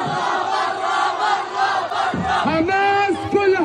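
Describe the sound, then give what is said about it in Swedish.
Hundreds of demonstrators in the streets of Gaza chant slogans against Hamas, such as "Hamas step down", "we don't want to die" and "Hamas out", in rhythmic, loud unison, with rising shouted calls that swell and repeat over a constant roar of the crowd. “Hundratals demonstranter protesterade på gatorna med slagord som Hamas avgå, vi vill inte dö och Hamas ut, det rapporterar vår internationella korrespondent.”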